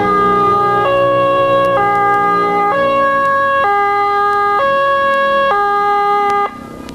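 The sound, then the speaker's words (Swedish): A two-tone siren of an ambulance arriving at the scene alternates steadily between high and low pitches, loud, with a faint engine rumble beneath; it drops off abruptly near the end. “Ja, ambulansen kom ju snabbt till platsen tack vare SOS-alarmering, slutalarmering.”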